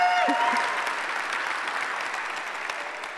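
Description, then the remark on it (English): An audience breaks into sustained applause to welcome the Nagpur, India campus and the Wyoming campus, a dense, steady wash of many hands clapping that holds for several seconds and eases off only slightly toward the end. “Would you just give them a warm welcome by way of applause?”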